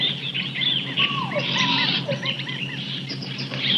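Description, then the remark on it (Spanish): Dense jungle ambience in hot weather: many birds chirp and whistle over a steady buzz of insects, with occasional squealing calls of monkeys, all blending into a continuous, lively wall of wildlife sound. “Oiga, hay aves, monos, insectos. ¿Quién sabe qué tanto bicho?”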